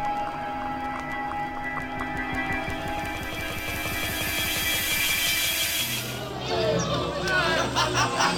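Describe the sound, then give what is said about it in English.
A dense, lively crowd gathered around a ship in celebration clamours with overlapping voices and a steady rhythmic clatter, then the din shifts after about six seconds to a lower rumble with scattered shouts. “Crowd around the ship. Looks like we're being welcomed with a celebration.”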